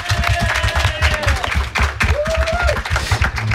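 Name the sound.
audience applause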